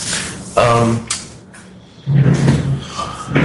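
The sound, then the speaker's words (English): A door is pushed shut, with a sudden scraping thud, a pause, then a heavier rumbling close as it settles into the frame, over faint background murmur. “I have to close the door.”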